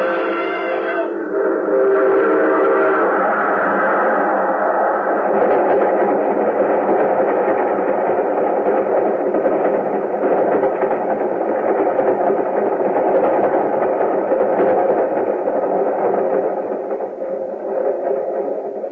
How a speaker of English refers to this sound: There's a train coming. There he goes. He's going to try to beat it.